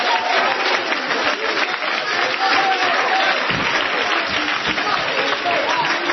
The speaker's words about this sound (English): And we're clapping our hands to the King of Kings and the Lord of Lords.